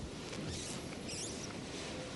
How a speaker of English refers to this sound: As I hear it, it must be hailing outside. I mean, that's not just a raindrop on this roof. We're getting hammered right now.